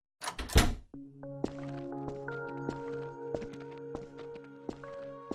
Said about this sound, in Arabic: اسمعي لحظة شوي، بحكي معك بعدين. في حدا بدق الباب.